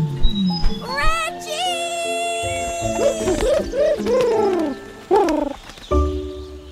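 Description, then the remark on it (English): Loud ostrich squawks come in a rapid run of warbling, gurgling bursts, rising and falling in pitch, with a few sharper honks near the end. “That ostrich is back, and I think he's on to us.”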